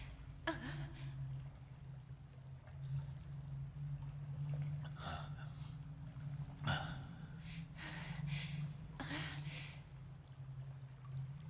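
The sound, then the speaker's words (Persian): Steady rushing water floods a cave with a low, constant roar as the water keeps rising, broken by several short bursts of splashing and sharp breaths that rise over it every second or two. “غار داره پر از آب میشه. ببین آب هنوز داره بالا میاد.”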